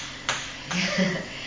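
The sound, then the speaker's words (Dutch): A couple of soft, dull taps on a clay doll's head, spaced apart, with a faint murmuring voice in the background. “Even tikken op zijn hoofd.”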